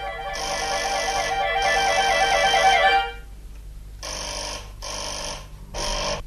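An electric doorbell at a front door at number 11 bis rings loudly and continuously for about three seconds with a harsh, buzzing metallic tone as a gentleman leans on the button without lifting his finger, around 3 in the afternoon, then sounds again in three shorter bursts after a brief pause. No one speaks.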